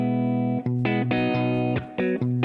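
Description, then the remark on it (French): Loud electric guitar playing a run of sustained, slightly gritty chords with brief breaks between them, using only the amplifier's built-in reverb, the notes ringing out with a touch of reverb. No one speaks. “Et là, c'est juste avec la reverb intégrée.”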